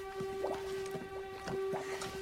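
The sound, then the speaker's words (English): A pool of thick black oil at the bottom of a mineshaft oozes and bubbles, with a steady run of soft wet pops and squelches every half second or so, over a constant low electrical hum. “He inspects the oozing, bubbling pool of black oil at the bottom.”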